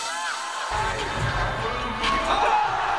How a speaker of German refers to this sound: Ja, so geht's ab bei ganz vielen Action-Sport-Contests. Mega Stimmung, gehypte Zuschauer, krasse Tricks, die dann da gefeiert werden.